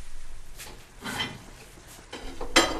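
Knives and forks are handled, giving a few bright metallic clinks and rattles in short bursts, the loudest near the end, with no one speaking.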